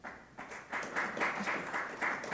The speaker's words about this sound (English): Who chooses Rishi? Applaud.